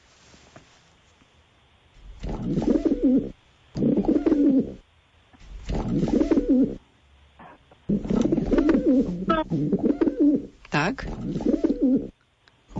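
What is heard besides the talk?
pigeon cooing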